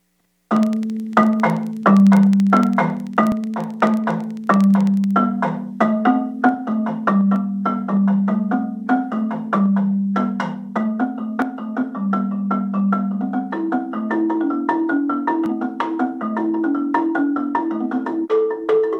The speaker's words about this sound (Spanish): Bueno, para tocarla, pues se usan estos tacos, que son de madera, construidos con esta cabeza hecha con caucho natural. Entonces voy a mostrarles un poquito del sonido de la marimba.